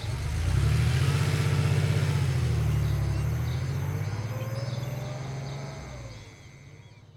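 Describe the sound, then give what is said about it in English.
A car engine revs up with a steady low rumble and pulls away as Makia's car leaves the Koinata estate to drive into town, the sound slowly fading over several seconds. No voices. “Avoiding the SEMA surveillance systems, Makia left the Koinata estate and took her car to drive into town.”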